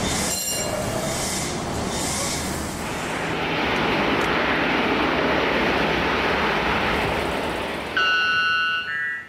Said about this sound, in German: Mit dem, genau der ist das, der Weißglöckner. Mit dem endet dieses kleine Lärm-Medley. Vom lauten Paarungsruf dieses Vogels aus dem Amazonas gibt's eben tatsächlich Aufzeichnungen.